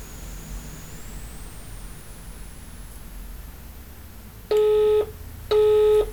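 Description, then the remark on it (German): Steady phone-line hiss with a faint high whine, then two loud electronic tones, each about half a second, with a short gap between them, as a telephone call is switched over and then hung up. “Und man hört auch, dass danach einfach leer ist und da kommt eine Umschaltung”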